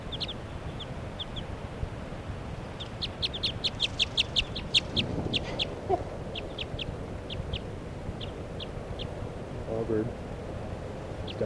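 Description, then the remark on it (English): A female wild bird perched next to a truck gives an alarm call of sharp, high chirps: a few scattered notes, then a quick rhythmic burst, then evenly spaced single calls, over a low rumbling background. “And that's her calling.”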